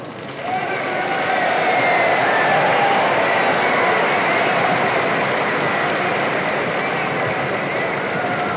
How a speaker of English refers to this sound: Delegates are applauding the young governor as he comes to the platform. The flashlights are popping. The delegates are standing and cheering. The moving picture men are grinding.